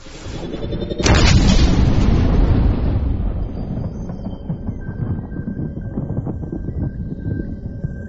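A sharp crack of thunder from a storm brewing in the north bursts out after a moment of low noise, then rolls into a long, deep rumble that slowly fades, with a faint steady tone lingering at the end.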